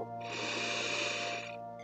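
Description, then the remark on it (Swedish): A single long, steady deep breath drawn in through the nose during a guided breathing exercise, airy, lasting over a second before stopping, with no talking. “Ta ett djupt andetag in.”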